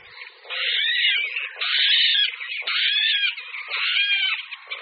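A water rail, a small bird about the size of a blackbird, gives harsh, piglike squealing calls in four long, loud bursts separated by brief pauses, strained and wheezy with a grunting edge, with no voices.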